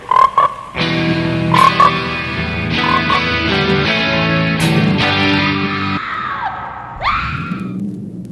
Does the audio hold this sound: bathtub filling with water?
no